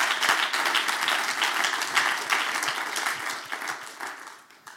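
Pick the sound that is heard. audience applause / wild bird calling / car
audience applause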